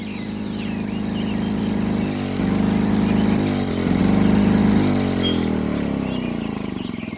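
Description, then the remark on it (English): A lawnmower engine runs steadily and loudly, its droning pitch rising and falling slightly as the load changes, with no voices over it. “Everyone, pardon my noisy lawnmower.”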